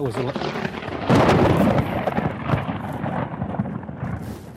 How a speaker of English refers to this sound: That hit me. Lightning bolt. Lightning just zipped me. Let's get the hell out of here.